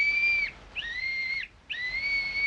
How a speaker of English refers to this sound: Sure, and he gave me this little whistle and said if we ever needed help, just to blow on it 3 times and he'd come a-running. I'm sure Fifo can help us.